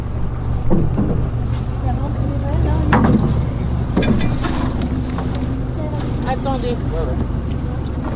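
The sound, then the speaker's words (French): A dinghy being sculled with a single oar out to a fishing boat at 7:30 in the morning, with a few spaced creaks and splashes from the strokes over a steady low hum of water and wind. Voices chatter throughout. “nous emmènent en annexe vers leur bateau, en godillant, ferme.”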